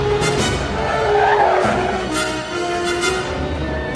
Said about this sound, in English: Passes a car, accelerates, and runs a red light. He speeds past a policeman who pursues on his motorcycle.